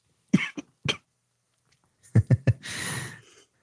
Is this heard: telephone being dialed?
no